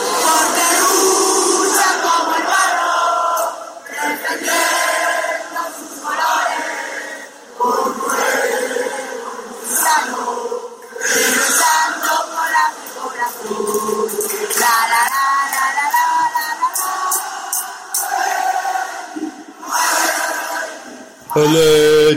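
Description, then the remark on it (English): A crowd of Atletico Madrid football fans sings and chants together in a metro station after the Madrid derby at the Vicente Calderón, loud and continuous, with rhythmic bursts of shouting and massed voices echoing throughout. “And here's some little singing from the metro station after the game.”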